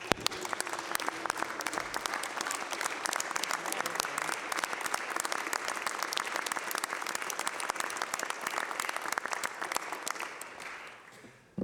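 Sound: round of applause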